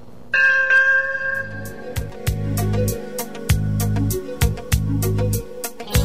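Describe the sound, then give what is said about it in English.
A bright bell strikes once and rings on with a sustained tone, followed by punchy drums and percussion with repeated sharp hits, loud, with no one speaking. “Ding dong!”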